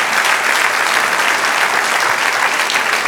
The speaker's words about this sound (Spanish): Sí, si quiere aplaudir, aplauda. Amén.